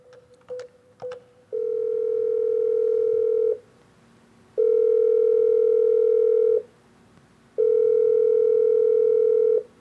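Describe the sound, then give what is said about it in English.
A few short clicks give way to a steady telephone tone repeating in long, even beeps, about two seconds on and one off, clear with no one speaking. “Yeah, we got another one of those phone calls, and we just need to see what was said.”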